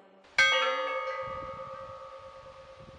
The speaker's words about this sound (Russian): Так в 43-м умирала Хатынь, в рай провожая своих убиенных детей. Пепел, сизый пепел, до боли жалобный звон, страшный голос Хатыни, голос войны мировой.